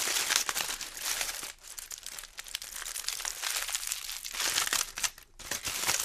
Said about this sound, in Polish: Zagadka dźwiękowa. Widzę to, zgadnę. Folia aluminiowa.